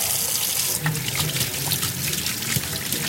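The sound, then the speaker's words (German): Tap water runs steadily into a sink while hands are washed under the stream, splashing and sloshing. No one speaks. “Was man aber in dieser Zeit gleich sollte, ist mehrmals am Tag Hände waschen. Am besten geht mit Seife und natürlich mit Wasser.”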